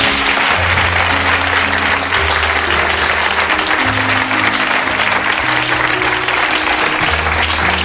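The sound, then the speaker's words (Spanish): Sustained, loud audience applause for a guitar lasts the whole stretch, a dense wash of clapping with low, stepping musical notes playing underneath it. “A ver, un aplauso por la guitarra.”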